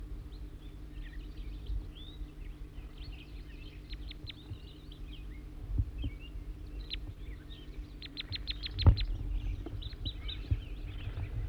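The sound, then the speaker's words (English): A wild bird perched in a serviceberry calls with scattered high chirps and quick bursts of rapid, sharp notes, set over a steady low hum with a few dull thumps; no one speaks. “Bird perched here now right above me in the service berry, looking down at 4-3.”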